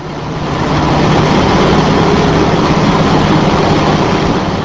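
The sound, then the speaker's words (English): The engine of a Coast Guard Response Boat Medium (RBM) roars steadily near its top speed of nearly 43 knots in Milwaukee Harbor on the Great Lakes, a loud, continuous rushing drone with a low hum, sustained with no voices. “On a tour of the Milwaukee Harbor, what's known as the Response Boat Medium, or RBM, got up close to its top speed of nearly 43 knots, or 55 miles per hour.”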